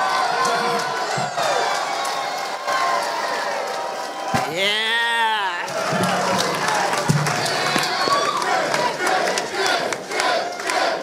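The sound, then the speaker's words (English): A comedy festival crowd claps and cheers steadily for about eleven seconds as a comedian is introduced to the stage, a dense roar of applause with scattered shouts and one loud, drawn-out whoop that rises and falls partway through. “Ladies and gentlemen, clap your hands”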